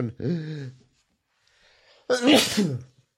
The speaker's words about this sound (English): Whoa, I'm going to sneeze.